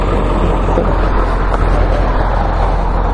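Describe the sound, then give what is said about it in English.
An approaching car's engine and road noise rumble steadily and loudly throughout, a dense low drone with no pauses, by a sidewalk behind a truck. Faint voices may sit beneath it. “Comes the car.”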